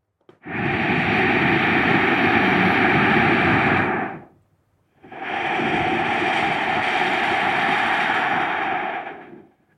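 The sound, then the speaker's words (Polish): Ujjayi yoga breathing: two long, steady throat-hissing breaths, an inhale and an exhale separated by a short pause, fairly loud with an ocean-like rushing texture and no talking. “Jest też pogłębiony oddech ujjayi, to jest taki wewnętrzny szum oceanu.”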